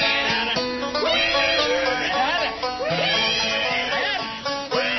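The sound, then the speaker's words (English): A person squeals loudly like a pig, a run of high, wavering vocal squeals that rise and fall over a dense, noisy background with no pauses. “You do not want to make Georgia squeal like a pig.”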